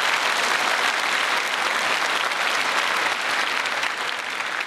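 Steady, loud applause from an audience for the volunteers fills the whole stretch, a dense patter of many hands clapping without pause, tapering only slightly toward the end.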